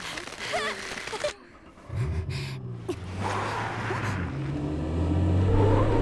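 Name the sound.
car engine revving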